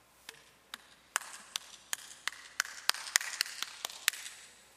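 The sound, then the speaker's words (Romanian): About a dozen sharp, crisp claps or slaps imitating how two soldiers applauded together, one missing his left hand and the other his right: slow and sparse at first, then quicker and a little louder, with no talking. “Și când aplaudau, aplaudau cam așa.”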